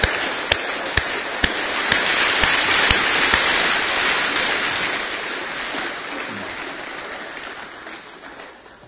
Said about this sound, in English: So I think it would be good just to stop and say a big thank you to each and every one of them. A round of applause as well.